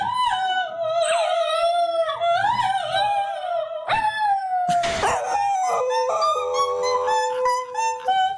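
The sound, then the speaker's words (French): A dog howls in long, wavering, sliding tones for several seconds, loud, as it accompanies its owner's singing in a duet, their pitches overlapping near the end; a brief noisy burst interrupts midway. “Nous avons les sons de votre duo entre vous et votre chien en exclusivité.”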